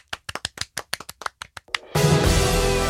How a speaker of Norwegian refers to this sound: Loppa er ukas tettsted. Vi klapper for det.